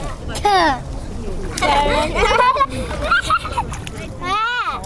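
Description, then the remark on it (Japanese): Excited children's voices chatter and squeal while water splashes and sloshes underneath, messy and continuous, as the children stomp through a flooded rice paddy during a rice-planting activity at Matsunomaru Kodomoen. “びちゃびちゃしないで。”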